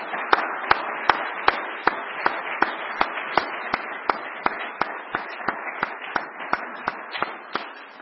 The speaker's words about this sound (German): Und ich finde, die Kinder und die jungen Menschen haben es ganz, ganz toll gemacht, die Jugendlichen. Und ich glaube, die haben sich einen Applaus verdient. Das können wir mal machen.